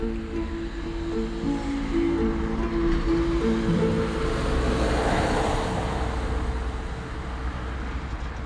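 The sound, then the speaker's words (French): A car engine hums steadily, with a broad rushing noise that swells toward the middle as an old man's car draws closer, arriving at a small industrial zone surrounded by mountains in Ambérieu-en-Bugey, France, then eases slightly. No one speaks. “Là, je crois que c'est lui qui arrive en voiture.”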